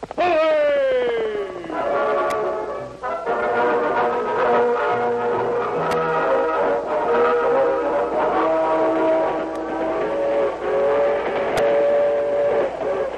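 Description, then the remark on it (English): A passenger steam train from California rumbles steadily along in a Lone Ranger radio drama while its whistle blows in long, sustained harmonic blasts, with a falling whistle at the start and the clatter of the cars running underneath throughout. “Dan Reed, the teenage nephew of the Lone Ranger, was a passenger on the train from California.”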